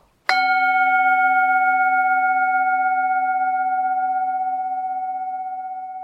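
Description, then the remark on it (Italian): A Tibetan singing bowl is struck once, giving a bright metallic strike that settles into a pure, sustained ringing tone with gently wavering overtones, slowly fading over several seconds with no voices. “Ringraziate il suono della campana tibetana che vi ha salvato da 45 minuti di monologo senza senso sui miei e i vostri mostri interiori.”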